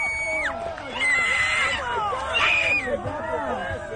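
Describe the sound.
A girl lets out high-pitched, excited screams in long sustained shrieks at a total solar eclipse in Oregon, as the sun is completely blacked out by the moon, rising and falling over a busy background of crowd chatter and other voices.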